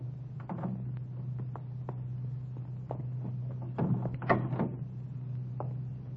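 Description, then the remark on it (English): A car door is eased open and shut quietly as someone gets out of a car stopped around the corner from a filling station, with a soft latch click and thunk amid small scattered clicks, over a steady low idling hum. “Easy on the door when you get out.”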